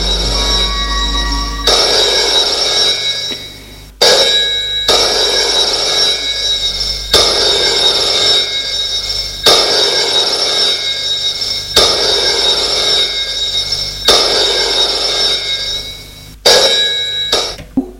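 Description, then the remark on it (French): A telephone bell rings loudly and repeatedly at Tony's home, each shrill metallic burst lasting a couple of seconds before a brief pause, repeating steadily with no one speaking. “Un jour, le téléphone sonne.”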